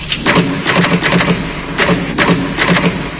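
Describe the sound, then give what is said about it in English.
Mechanical typewriter keys strike in a quick irregular run as the word "typewriter" is typed using the top row of letters, each sharp clack loud, with a brief spoken word at the start. “Funny, someone told me the other day, weird thing about a typewriter, the top row of letters, the longest word you can write, is typewriter. I'll just show you.”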